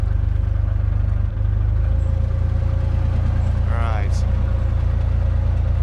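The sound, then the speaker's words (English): A canal narrowboat engine runs steadily at low throttle as the boat swings left to turn, a continuous low diesel chug with an even rhythm that never changes pace; a brief higher sound rises briefly near the end. “Gentle bit of engine.”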